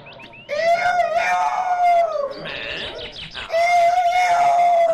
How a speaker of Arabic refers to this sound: استمع من جديد، فإذا به صوت ديك نشيطا وصاحب صوت عال جدا أعلى من صوته عندما كان يتفاخر بنفسه. نظر جيدا فإذا بصاحبه الديك المريض قد شفي وقد عاد يصيح بصوت عال في الغابة.